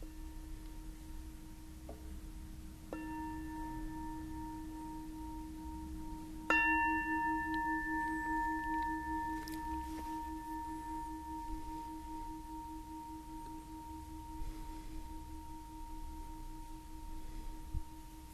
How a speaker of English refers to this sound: Perhaps you can bring that way of bringing mindfulness to the next moment, to the next thing, to how you respond to the bell ending this sitting.